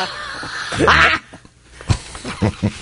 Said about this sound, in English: You coughed up a lung on that one.